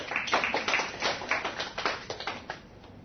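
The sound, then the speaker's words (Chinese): A crowd claps steadily for a few seconds, many hands at once producing a dense, even patter of applause that thins slightly toward the end. No one speaks. “哦，后代子孙，哇太好了，给这个朋友掌声鼓励一下。”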